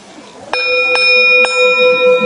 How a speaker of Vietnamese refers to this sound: Cho nên cái người mà trước khi thỉnh chuông phải chuẩn bị tư thế đứng như thế nào, cầm dùi như thế nào, tâm tư phải như thế nào. Cái người mà nóng giận không được lên thỉnh chuông, tại vì họ mà nóng giận lên thỉnh chuông nghe biết liền à.